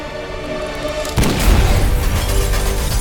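A steady droning hum is abruptly broken by a loud crash of glass bursting from every window of a plane and an explosive boom as one of the plane's engines explodes, followed by a sustained, roaring rush of noise.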